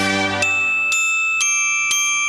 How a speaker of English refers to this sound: That was me. Wasn't I good? Boy, I love playing the bells.